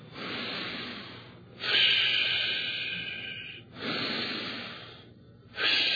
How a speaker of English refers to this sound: See, it begins with a deep in-breathing and then the expelling of the breath. But you cannot expel what you haven't in-breathed.